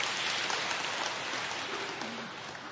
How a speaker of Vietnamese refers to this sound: Vâng, chúng ta cho một tràng pháo tay thưa anh chị em.